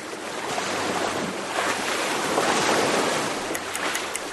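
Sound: sea waves and wind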